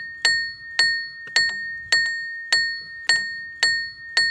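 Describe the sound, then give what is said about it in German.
A small hammer, moved by a cam on the wheel of a moving rope wagon at Hilbersdorf, strikes a metal bell in a steady, regular rhythm, about eight sharp ringing dings, each with a bright sustained tone that decays before the next blow. “Ach ja, und immer wenn der Seilwagen fährt, dann wird durch eine kleine Nocke am Rad ein Hämmerchen bewegt. Das schlägt und macht Lärm.”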